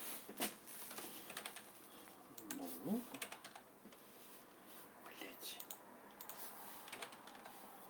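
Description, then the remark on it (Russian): Soft, irregular clatter of typing on a computer keyboard, quick bursts of key clicks spread across the whole stretch, fairly quiet, with a brief low murmur of a voice near the middle. “Сейчас у тебя не работает клавиатура.”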